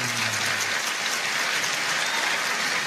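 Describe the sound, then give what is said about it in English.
A crowd applauds steadily, a dense, even wash of many hands clapping at a constant loud level for a few seconds, with no voices rising above it. “The whole audience is applauding.”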